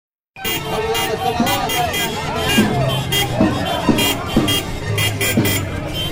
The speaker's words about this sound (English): this line of cars comes around the corner, honking, endless honking, and they're waving flags, blue flags. At first, I didn't know what the hell was happening, but it turns out it was an election rally.